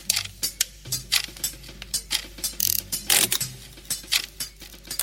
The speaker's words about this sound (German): Als kleiner Junge hat er viel Zeit in Fabrikhallen verbracht, wo sein Vater gearbeitet hat. Klein Maurice hat es geliebt, den Maschinen zu lauschen, ihr Knarzen, Krachen und Klopfen.